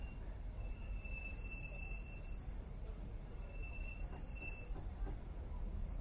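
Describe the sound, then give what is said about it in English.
Two high, shrill whistle-like tones sound from a train, each lasting about a second or so, over a steady low rumble of rail noise. No one speaks. “It's using the whistle.”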